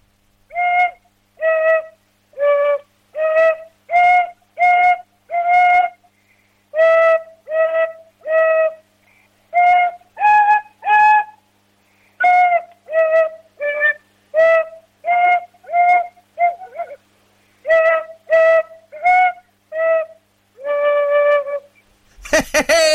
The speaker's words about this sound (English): take it away with your tin whistle